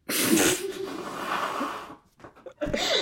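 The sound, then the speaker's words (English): Someone blows their nose loudly: a long, honking, noisy gust lasting nearly two seconds, a short sniffly pause, then another forceful blast. “sorry, I have to blow my nose.”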